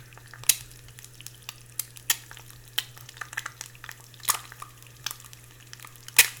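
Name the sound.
egg frying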